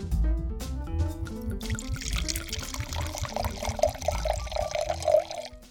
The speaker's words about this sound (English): That was a nice pour, too. Very good.